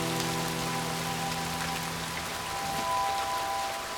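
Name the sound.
rain falling outside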